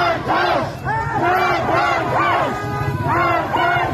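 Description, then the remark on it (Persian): A huge crowd of mourners from Kurdish cities, gathered at Saqqez, Iran, for the 40th-day memorial of Mahsa (Jina) Amini, chants together in loud, rising and falling waves of many voices, the rhythmic calls overlapping continuously over a steady roar of crowd noise. “این سیل جمعیتی است که از دیگر شهرهای کردنشین برای شرکت در مراسم 40 روز مرگش به اینجا آمدند.”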